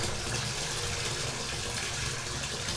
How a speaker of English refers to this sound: Is this working? Which way do I turn it to turn the water off? Is it going off? Yeah, I think it's... Yeah, there we go.